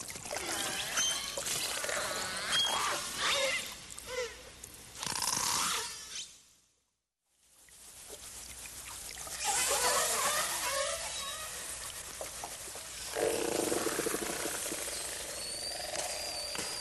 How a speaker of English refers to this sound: Well, let's listen to the difference between the AT1 killer whales and other pods. We'll start with the AJP pod killer whale and follow with the call of the AT1 killer whale.